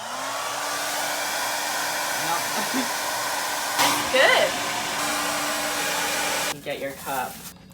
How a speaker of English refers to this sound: This is how you get water when there's no water and you need water. Get a hair dryer. You get your ice from the free ice thing. Turn this bad boy on high.